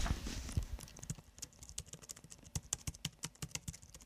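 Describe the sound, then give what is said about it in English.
Rapid, irregular clicking of keys on a computer keyboard, fairly crisp, with a few heavier thumps at the start before the steady typing takes over. “And can I just tap on a few keys a minute?”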